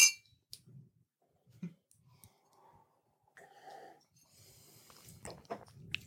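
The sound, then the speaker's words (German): Glasses of Long Island Iced Tea clink together in a toast, a brief, bright ringing tap, surrounded by soft breathing and quiet sipping noises, with no talking. “Lass uns anstoßen kurz.”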